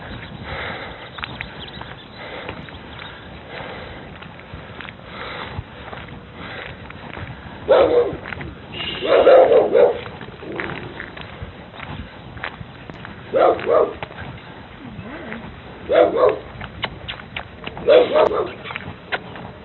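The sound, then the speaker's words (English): A dog gives several short, sharp barks spaced irregularly over a steady muffled background, a few barks clustered close together, fairly loud, with no talking. “You're a good pup. You're a better pup when you don't bark.”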